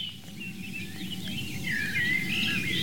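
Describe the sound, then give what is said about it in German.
Birds sing outdoors at about 6:19 in the morning at a roe deer hotspot, in a steady stream of chirps and warbling trills over a low, constant background rumble. No one speaks. “Schöner Vogelgesang um die Rehohren rum den ganzen Tag.”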